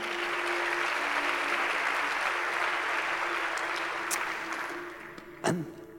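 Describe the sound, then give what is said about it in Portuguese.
An audience bursts into sustained, steady applause, a dense wash of many hands clapping that holds strongly for several seconds before thinning out, with a brief sharp sound near the end. “Dá uma salva de palmas.”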